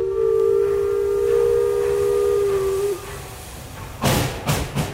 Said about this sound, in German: Ja, die Lok, die faucht ein bisschen, ist ja auch schon eine alte Dame. Hört ihr, jetzt nimmt sie langsam Fahrt auf. Ja, so klingt eine alte Dampflokomotive. Richtig, mit Kohleofen und Dampf aus dem Schornstein.